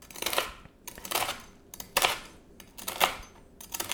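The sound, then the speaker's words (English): A knife chops food on a cutting board into roughly quarter-inch chunks for mofongo, in a steady series of crisp cuts, roughly one or two per second, with no talking. “Again, I'm just cutting it to maybe quarter inch chunks.”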